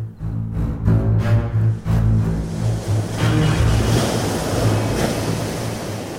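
Ocean surf around Lanka rolls and washes continuously, with surging waves building and receding over a deep, rumbling low end and some wind buffeting the microphone. No one speaks.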